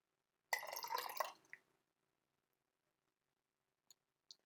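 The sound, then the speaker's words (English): Hojicha tea is poured into half a cup of oat milk in a brief, loud splashing burst lasting about a second, trailing off into a small splash, followed by two faint drips or clinks after a pause. “So now what we can do is we can pour in the hojicha into the oat milk.”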